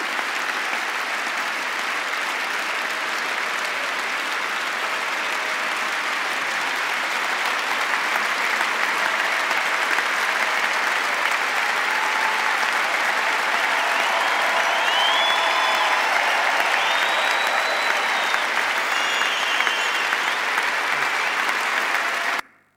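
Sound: audience standing and applauding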